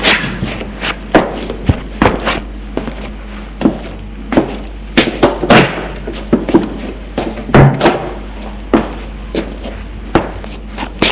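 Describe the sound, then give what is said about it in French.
Footsteps thud across a floor at an irregular pace as two people leave an office after a ring at the door, mixed with the clunks and knocks of the front door being handled and opened to let a doctor in, with no one speaking. “L'on a sonné à la porte. Ils sortent tous deux du bureau.”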